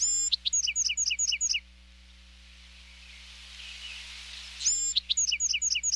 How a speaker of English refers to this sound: Each adult male Buick's Wren has his own set of songs.